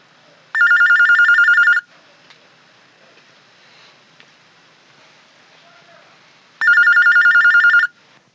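A telephone rings twice before a call is answered for a recorded question-and-answer session by phone, each burst a rapid trilling bell lasting about a second, separated by a long quiet pause with faint line hiss.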